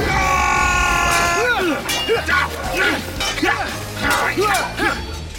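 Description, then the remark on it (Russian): A chaotic burst of many voices yelling and shouting over one another, loud, with sharp clattering knocks breaking through the commotion, as a crowd of fans fights. “Это крики моих безумных фанатов?”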